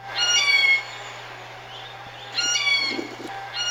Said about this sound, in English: So I recorded that with my cell phone in my backyard about a week or two ago, and let's hear the second one. So both recordings are a blue jay, and that second one, it sounds very hawk-like.